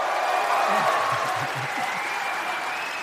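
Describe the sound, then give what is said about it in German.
Sustained audience applause welcoming Kevin Teller from Cologne, a dense steady wash of clapping, loud, with a few faint voices mixed underneath. “es ist aus Köln für euch, Kevin Teller! Applaus!”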